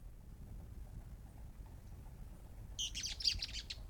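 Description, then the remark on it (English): A quick flurry of high, overlapping bird chirps from several birds chasing one another in pairs bursts out after a stretch of low, steady rumble, then fades. “Several birds still. They're chasing one another, but they seem to occur in twos.”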